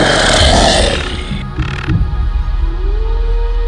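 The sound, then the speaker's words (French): A deep, rumbling growl of a giant wolf, fairly loud, opening with a harsh rushing burst before settling into a low throbbing snarl with a rising tonal edge at the end. “Puis, un loup d'une taille démesurée fait son apparition.”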